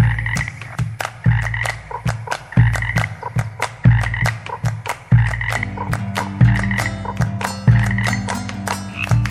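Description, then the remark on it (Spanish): A loud chorus of frogs and toads croaking in a steady, rapid rhythm, with overlapping deep croaks and higher chirps pulsing continuously and no voices. “Cuando voy a traer agua, me gusta quedarme un rato haciendo cantar las ranas pa' que bailen con los sapos.”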